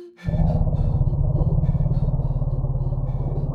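A deep, loud elephant rumble, the elephants' specific warning call for bees, a low throbbing drone with a steady pulsing texture that holds unbroken for several seconds after a sudden start, with no one talking.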